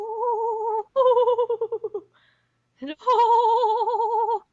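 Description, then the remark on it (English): A person imitates a goat's bleat with a quivering vibrato voice: one wavering call, a stuttering pulsed bleat, a short pause, then a long wobbling bleat, fairly loud. “Except I kind of want to do another goat vibrato.”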